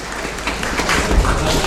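Audience applause: a steady, dense wash of many hands clapping at a fairly even level, with no voices rising above it.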